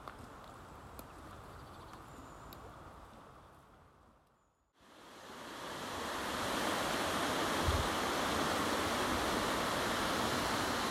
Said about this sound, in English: The water's starting to pick up pace again as it whips around a meandering corner. Just around this corner, I know for a fact that we're going to be greeted by the Strid itself.